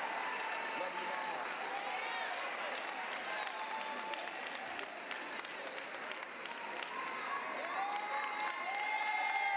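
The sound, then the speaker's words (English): A crowd claps and cheers steadily, with dense applause and raised voices, high whoops and shouts rising through the noise for the whole stretch, welcoming a singer as she comes up. “Come on, y'all, clap your hands and make some noise for our mother as she comes.”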